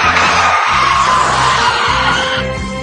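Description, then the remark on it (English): A car wreck sound effect: a loud, dense burst of crunching, chaotic noise that stays harsh for about three seconds before easing slightly, with no talking over it. “Okay, a car wreck.”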